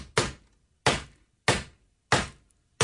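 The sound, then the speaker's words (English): Loud banging on a countertop, tapping out an SOS signal to call for help: five heavy thumps spaced at a steady, deliberate pace, each landing sharply and dying away quickly, with no voices. “That's me banging Except on the counter.”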